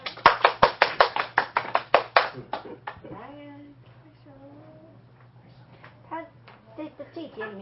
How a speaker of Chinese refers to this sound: 就单单这一段，大家都可以给我拍拍手吧，对啊。